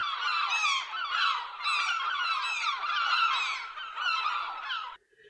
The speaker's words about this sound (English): Again, to do this, we will play a little bit of squawking seagulls. This is what you should expect to hear. Enjoy.